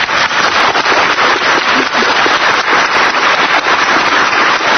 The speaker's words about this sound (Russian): Слышали бурные продолжительные аплодисменты? Это зашлась в восторге неэффективная коррумпированная бюрократия.